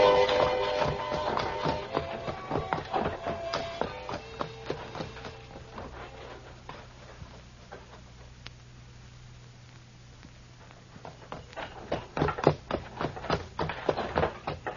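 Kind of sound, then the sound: animal, horse-drawn wagon hooves clip-clopping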